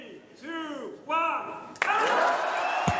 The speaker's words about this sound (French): Voilà, il a été applaudi à Cannes. Bien sûr, applaudissements.